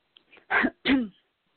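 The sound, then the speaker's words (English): Two loud, harsh coughs come in quick succession, the second slightly longer, after a faint breathy catch, from a person who started coughing just as they were about to speak. No one speaks. “I was about to speak and I started to cough.”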